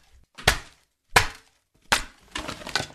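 Ice cubes are smashed in a sink by the BBC's Anna Holligan in three sharp, bright cracks, the last followed by a scattered clatter of fragments. No voices.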